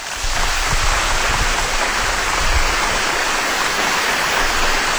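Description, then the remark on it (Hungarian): A crowd applauds steadily on the Káosz Rádió show, a dense and even wash of clapping that holds at a fairly loud level for about five seconds without any voices over it. “Jó van, eleget tapsoltatok már.”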